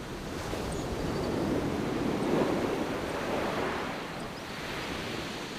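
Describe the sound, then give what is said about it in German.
Steady, broad rush of surf from the turquoise Caribbean Sea at a beach, with gusting wind blowing over it and through palm trees, a continuous wash that swells slightly in the middle and never breaks into distinct waves. No voices. “Palmen wehen leicht im Wind und zeigen hinaus auf das türkisfarbene, glasklare Wasser der Karibischen See.”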